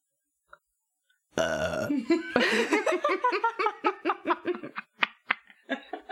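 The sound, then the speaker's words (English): A single drawn-out burp, slightly muffled as if turned away from the microphone, followed immediately by several seconds of rhythmic, breathy laughter in short bursts. “I saw you go to, like, not burp into the mic, and I was going to be like,”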